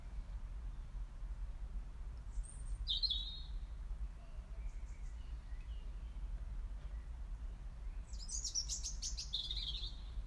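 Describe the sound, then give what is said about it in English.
A bird gives sharp, high-pitched alarm calls in two short bursts, one early and a longer, busier one near the end, over a steady low outdoor rumble. “That's when a bird gave an alarm call.”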